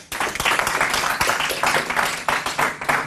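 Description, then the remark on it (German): An audience applauds steadily, a dense wash of many hands clapping at a fairly loud, even level with no voices over it, welcoming Professor Werner Kirschstein to speak on the effects of carbon dioxide on flora and fauna. “Begrüßen wir einen herzlichen Applaus, Professor Werner Kirschstein.”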